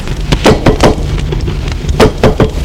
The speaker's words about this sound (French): On a frappé à la porte.